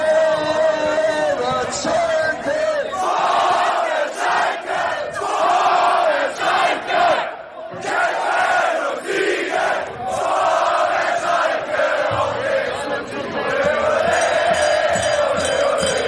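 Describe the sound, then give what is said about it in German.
A huge crowd of hundreds of thousands of fans in GE, waiting for their team returning by train from a title win, cheers and chants continuously, a loud, dense roar of many voices with rising shouts and a brief dip partway through. “Im Zug zurück nach GE wurden neue Kräfte gesammelt, denn dort warteten Hunderttausende auf ihre Jungs.”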